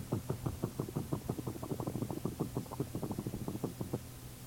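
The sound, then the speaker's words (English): A man's voice imitates a Leroy generator engine running around the clock: a rapid, steady chugging of low, buzzy pulses, roughly eight per second, lasting about four seconds before stopping. “It was called the Leroy engine. And you ever hear the Leroy generator? Yeah, it would go...”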